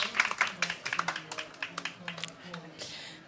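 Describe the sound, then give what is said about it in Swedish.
Audience applause from a small group of live guests: scattered, irregular claps of moderate loudness that continue throughout, with faint murmuring voices underneath before the clapping thins out at the end. “Vi ger en applåd.”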